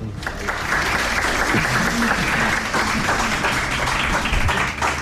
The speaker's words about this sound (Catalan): Un aplaudiment per ells dos.